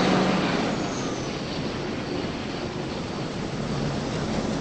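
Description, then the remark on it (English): A city bus pulls away from a stop, its engine a steady, broad roar and rumble that holds fairly loud and even for several seconds, with no voices. “The bus leaves without her.”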